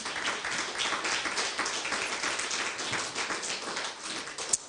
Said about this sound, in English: Give yourselves a hand clap of praise.